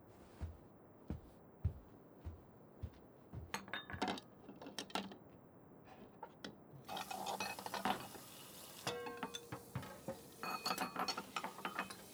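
Plates and dishes, brought to be washed, clink and clatter in irregular bursts of sharp knocks, with a steady hissing wash joining partway through as the clinking continues. No one speaks.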